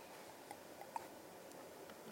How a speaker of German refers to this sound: Entschuldigung, jetzt brauche ich einen Schluck Wasser.